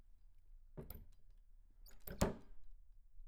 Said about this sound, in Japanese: ここが僕の部屋だよ。狭いけど、二人で暮らすには十分だと思う。君が鍵を開けていいんだよ。